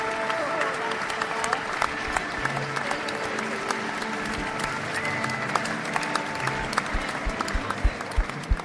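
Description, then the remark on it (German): Thunderous applause from a concert audience as the musicians walk onto the stage: a dense, steady roar of many hands clapping at once with scattered voices and the odd cheer mixed in, holding loud throughout. “Unter tosendem Applaus sind die Musiker und Musikerinnen auf die Bühne gelaufen.”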